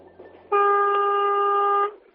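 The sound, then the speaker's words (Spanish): The horn of a semi-trailer truck sounds one steady, fairly low blast lasting just over a second, loud, with nothing else going on around it. “Mira, voy a hacer la prueba, a ver, toca el claxon.”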